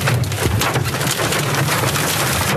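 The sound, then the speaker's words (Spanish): Large hailstones, more than 3 centimetres across, pelt and bounce off surfaces in a dense, irregular clatter of sharp knocks, steady and loud throughout, with a low rumbling hum underneath and no voices. “Son pocas las piedras, pero fíjense cómo rebotan.”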